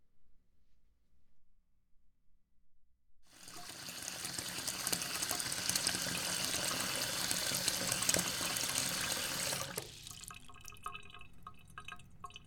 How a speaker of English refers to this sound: Okay, that looks like more than enough water to me. I think the bath is ready.